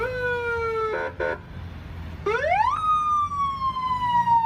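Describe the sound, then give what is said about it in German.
A loud English police car siren wails with rising and falling tones, broken by a brief stutter, then sweeps up sharply and holds a long high note, with traffic rumbling underneath. “Einen ohrenbetäubenden Radau veranstalten englische Polizeiautos.”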